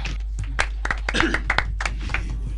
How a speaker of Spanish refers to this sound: Chao. Un aplauso.